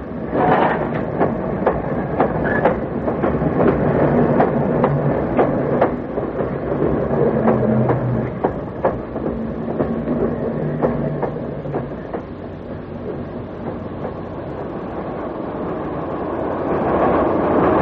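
A sleeper train a few minutes from Reading rumbles steadily along the rails, with repeated clacking wheel beats and occasional metallic squeals over a continuous low roar, with no voices.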